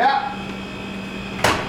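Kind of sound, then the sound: household object, door being opened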